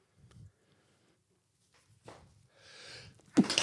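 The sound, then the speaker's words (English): A few soft, breathy intakes build up before one sharp, loud sneeze bursts out near the end, with no talking. “But no, he was just sneezing.”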